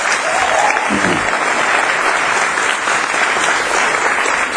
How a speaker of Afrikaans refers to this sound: Nou gee vir die Here groot groot hande klap.